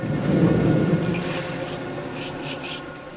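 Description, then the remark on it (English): A steady, loud mechanical rumble of a giant machine in a food plant dicing dozens of peeled white onions at a time, with continuous low churning and scattered faint clicks and rattles throughout, no talking. “That sound you hear is the sound of peeled white onions, dozens of them at a time, running through a giant machine that dices them.”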